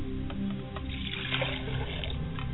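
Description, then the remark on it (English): Water is poured out as a libation during a prayer, a steady splashing trickle for a few seconds with a low hum underneath and no voices. “As I pray for libation to the north, I say, Ashe.”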